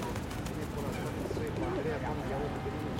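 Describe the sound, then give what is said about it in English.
Soft, low pigeon coos repeat in a gentle rolling rhythm over a steady outdoor background hum. “The swan is stripping the spray mallet from the sprig, and it's attracting all the pigeons.”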